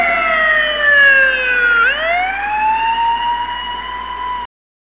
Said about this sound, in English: That's a police car, of course. Well, a police car in America, okay?